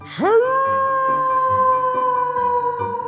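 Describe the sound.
A single long, eerie werewolf-style howl swoops sharply upward and then holds a steady, loud wail for about three seconds, with a soft, pulsing musical backing underneath.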